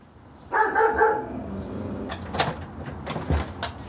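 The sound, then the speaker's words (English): A dog barks twice in quick succession at a house, followed by shuffling, clicks and door-like bumps as someone moves around inside. “Oh, good dog. Good doggy.”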